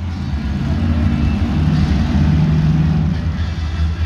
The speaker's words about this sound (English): Now that you guys have met each one of the drivers in the lineup today, let's get loud. So in November, I went to a monster truck rally.